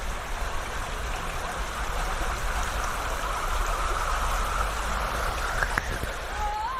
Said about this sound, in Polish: Ale ładnie szumi ta woda.